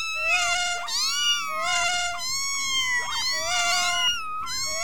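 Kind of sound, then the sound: animal, kittens meowing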